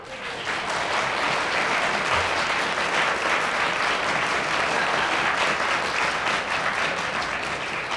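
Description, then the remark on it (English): Sustained audience applause at a radio panel game as Alfred Marx gets a point for speaking when the whistle went, a dense, steady wash of many hands clapping at an even loudness for the full length, with no talking over it. “The ecstatic reactions of joy from the audience as Alfred Marx got a point for speaking when the whistle went.”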